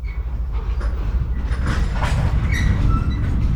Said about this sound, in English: You can tell it's a depot because it sounds like this. You can hear the trains around you, and as you enter or leave a depot, you are told.